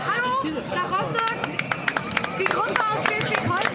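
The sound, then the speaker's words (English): Thousands of people chanting and waving signs at a rally for small-scale farming at Potsdamer Platz in Berlin, a dense, loud wall of overlapping voices, with scattered sharp claps or shouts cutting through the steady roar. “Thousands of people are chanting and waving signs.”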